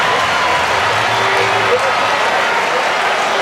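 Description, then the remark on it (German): A crowd of 13,000 spectators in a stadium in Innsbruck roars and cheers Marko Arnautovic's goal that puts Austria 2:1 ahead of Ukraine, a dense, steady wall of loud cheering and applause that holds unbroken for the whole stretch. “13.000 Zuschauer feiern hier den Treffer von Marco Arnautovic.”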